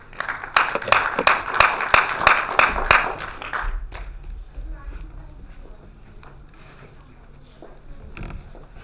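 A warm burst of audience applause, many hands clapping briskly and loudly for a few seconds, then dying away into low murmuring background noise with a few stray claps.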